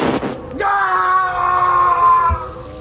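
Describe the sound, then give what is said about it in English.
A ray gun fires, the shot going straight through a man and into a panel: a brief crackling burst, then a quick upward sweep into a loud, sustained whistling tone rich in harmonics that holds steady for about two seconds before cutting off. “The shot went straight through him and into the panel.”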